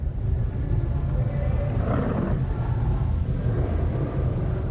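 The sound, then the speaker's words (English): Low, rumbling animal-like breathing from a Scorsese boxing fight sequence with all crowd noise removed, as if Sugar Ray or Jake LaMotta were breathing like an animal, drones steadily throughout, a growly, heavy texture with a slight swell near the middle and no voices over it. “We took away all the crowd noise, and all you hear is very light animal breathing, as if either Sugar Ray or Jake LaMotta is breathing like an animal.”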